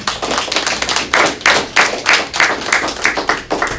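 Steady clapping from a small group at a government address to the Social Security board in the British Virgin Islands, with sharp, regular claps about three per second that stay fairly loud throughout, and no voices.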